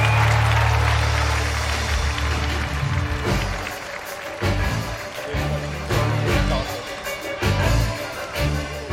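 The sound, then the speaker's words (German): Sustained audience applause for the circus orchestra as the circus's new programme 'Euphorie' begins, a dense clapping roar mixed with loud orchestral music with steady low brass tones, holding strong for the full stretch without a break. “Applaus für unser Zirkusorchester.”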